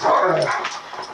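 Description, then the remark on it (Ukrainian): A malamute dog, a mix of wolf and dog, barks and whimpers in quick yelps, a bright vocal burst at the start that trails into softer whining. No one speaks. “У Джона вдома два пса-маламута – суміш вовка і собаки.”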